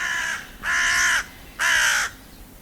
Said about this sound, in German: Rabenkrähe.